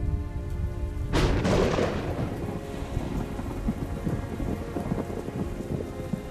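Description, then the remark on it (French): Heavy rain pours steadily while a loud crack of thunder bursts near the start and rumbles off, leaving a dense, continuous downpour with low rumbling underneath. No voices. “se risquant à sortir de la halle qui l'abrite, part en solitaire au milieu du vent violent et des coups de tonnerre qui s'écrasent avec fracas tout autour de lui.”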